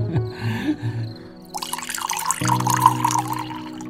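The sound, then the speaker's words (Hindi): After a brief quiet hum, water pours steadily into a glass from about halfway through, a continuous splashing stream whose tone shifts as the vessel fills, running to the end. “जी ये लीजिए पानी।”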